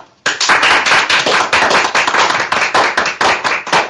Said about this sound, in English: So I would like to have an applause